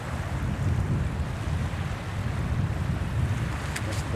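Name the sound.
ocean waves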